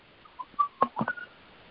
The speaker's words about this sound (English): Who's whistling? That's a bird. There's a baby bird that is just practicing here, his loud calling. That's a baby bird whistling? I love it. What is that? It's a baby butcher bird. Really? That's beautiful. I thought it was artificial.